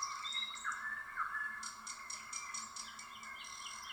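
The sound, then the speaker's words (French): Birds sing and chirp continuously, with thin high whistles and a run of quick, evenly spaced chirps, set against a steady background hum of insects. No one speaks. “Leur chant est agréable, comme une belle mélodie.”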